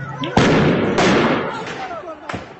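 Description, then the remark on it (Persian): Three loud, sharp shots of live ammunition fired by government forces at protesters in Kurdish cities of western Iran such as Javanrud and Mahabad crack out at uneven intervals, each leaving a booming echo, while people shout in the background. “گزارش‌ها و تصاویر منتشر شده نشان می‌دهد که نیروهای حکومتی اقدام به شلیک گلوله جنگی به سمت معترضان کردند.”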